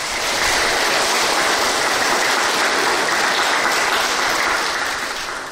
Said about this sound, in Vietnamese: Quá giỏi, cho một tràng pháo tay.